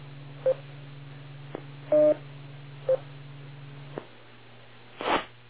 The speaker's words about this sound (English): I'm going to have to test the echo link at some point. I'm hearing it burp, but clearly there's nobody on it.